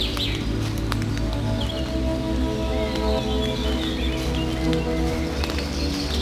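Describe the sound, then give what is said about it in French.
Scattered high bird chirps and calls in a forest of mixed tree species come and go over a steady, loud low rumble, with faint rustling throughout and no one speaking. “Vous êtes entré dans le pays magique des oiseaux.”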